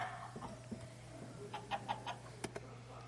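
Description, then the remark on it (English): A few chickens cluck in a quick run of short, clipped notes, with a couple more sharp clucks just after, all over a low, steady background hum. “Those people ate breakfast, so they had to have eggs, and to get the eggs, they would have had to have chickens.”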